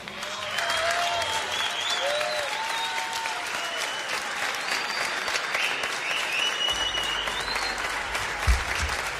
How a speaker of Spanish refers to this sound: Con ese aplauso. Bienvenidos.